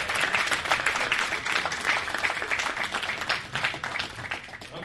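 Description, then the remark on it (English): Steady audience applause for a man who has just spoken, a dense wash of many hands clapping at a fairly loud, even level without letting up, with no clear voices rising above it. “Can I get one more round of applause for this man?”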